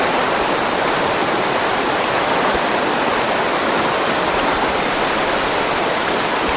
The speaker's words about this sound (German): Gleich gehen die Pumpen des Schöpfwerks an. Das gibt eine heftige Strömung.